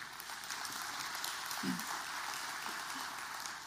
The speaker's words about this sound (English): You can clap. That's good.